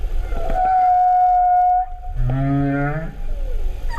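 Whale song, often in low frequencies carried far through water: a long, steady mid-pitched tone, then a lower, buzzy, harmonic-rich call that bends upward, followed by a faint gliding note over a low rumbling background.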